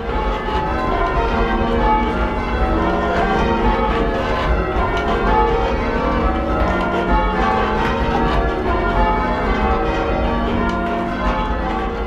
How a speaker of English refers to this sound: churches will have anywhere from 4 to 8 to 12 bells, but the rope will come down through the ceiling, and one person per bell pulling on this rope. Mm-hmm. Let's hear how it sounds.